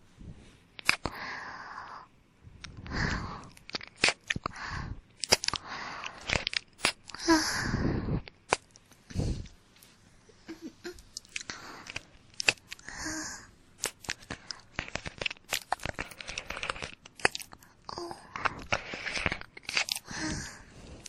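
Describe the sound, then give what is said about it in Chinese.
Wet mouth sounds of nibbling and chewing on an ear: irregular smacks, soft crunchy clicks and occasional breathy sniffs in uneven bursts, moderately loud, with no one speaking. “你的耳朵真好吃。”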